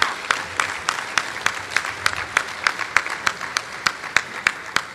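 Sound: round of applause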